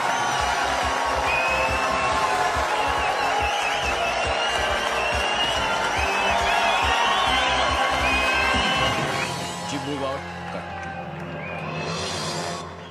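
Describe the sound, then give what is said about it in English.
A loud, steady wash of studio audience applause and cheering on the show Who Wants to Be a Millionaire, mixed with upbeat music and a pounding beat; the beat drops out near the end while the clapping continues. “We are on. Applause and music, please.”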